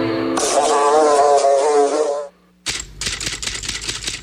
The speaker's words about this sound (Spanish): Identifica el zumbido de El Ojo de la Mosca.